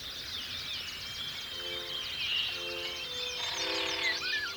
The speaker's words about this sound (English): But for migratory birds, the sky is a street, and the sonic experience of that space is embodied and social, buzzing with the chatty communication of flight calls.